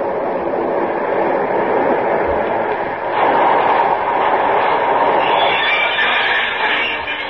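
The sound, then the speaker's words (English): A six-car local train pulling into a station, a loud, steady rumble that swells partway through, joined later by a sustained higher hiss or squeal as it slows. No one speaks. “Here comes the local.”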